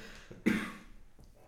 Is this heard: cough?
yes